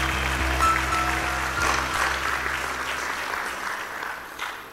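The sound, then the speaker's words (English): An audience claps and applauds steadily to give praise to God one morning, a dense wash of many hands, with a low sustained organ-like hum underneath that fades slightly toward the end. “Can you clap and give God a great praise this morning?”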